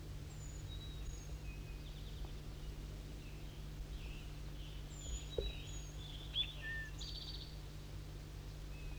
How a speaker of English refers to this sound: Start recording bird 4-3 singing.